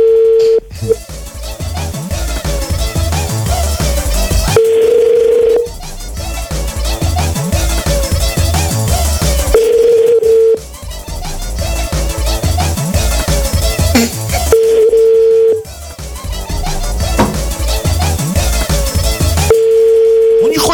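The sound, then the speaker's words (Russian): A steady telephone ringback tone sounds while calling a woman, in one-second pulses about every five seconds, with loud, dense music-like sound and some voices filling the gaps between rings. “Не важно, я дозвонюсь все равно.”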